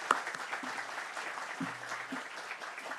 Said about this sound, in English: So let's go ahead and give her a round of applause.